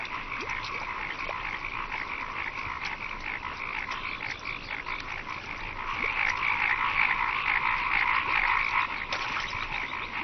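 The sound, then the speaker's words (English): A dense chorus of many frogs croaking at once in a ploughed paddy field, a continuous rattling drone that swells louder about halfway through, with no voices present. “This may look like a slaughter, but as each heron can swallow only one frog at a time, the vast majority will escape to croak another day.”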